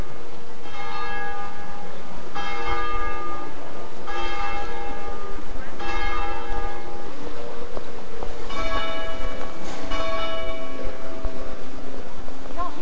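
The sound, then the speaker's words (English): Church bells in Rome peal repeatedly on a fine day as Mass is about to start, with rich, ringing overtones, strikes arriving every couple of seconds and overlapping into a continuous clangor, loud over faint outdoor ambience. “Can you hear the bells?”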